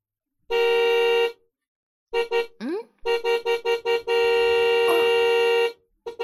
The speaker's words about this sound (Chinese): 你爸好像在按喇叭，应该是你爸，他回来了吧。儿子， 儿子，快出去看一下，应该是你爸在按喇叭呢。